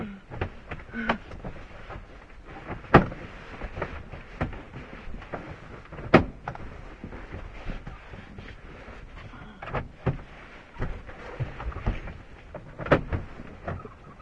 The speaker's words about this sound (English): Door was stuck again. These old cars.